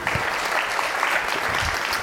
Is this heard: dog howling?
no